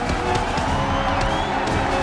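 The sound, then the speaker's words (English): A large arena crowd at a boxing match roars and cheers as Rocky Balboa gets back up against Mason, in a dense, continuous wash of noise, steady and loud throughout, with no single voice standing out. “Crowd is astonished that Balboa got up.”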